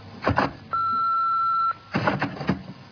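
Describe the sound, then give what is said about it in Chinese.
A single loud, steady electronic beep from a home answering machine before a recorded message plays, lasting about a second, with muffled voices briefly before and after it. “咦？有 message 嘅？”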